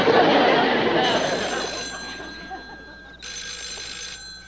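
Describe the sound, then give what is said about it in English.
A telephone bell rings steadily throughout, its bright metallic tone holding over a hissy, busy background with faint murmuring, moderately loud; the ringing comes from a phone in a belt. “My belt is ringing.”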